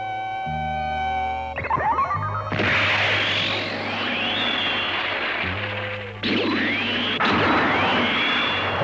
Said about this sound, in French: Spatial, actionne le canon à proton.